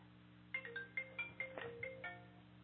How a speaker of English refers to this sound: Sorry, the phone rang.